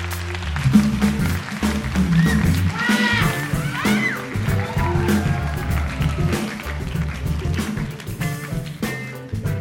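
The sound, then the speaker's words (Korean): An audience at an EBS FM public radio broadcast applauds steadily for about ten seconds to welcome Park Yong-je, author of the webtoon God of High School, a dense, continuous patter of many hands clapping at an even loudness, with some tonal music-like sounds mixed underneath. “큰 박수로 맞이해 주세요.”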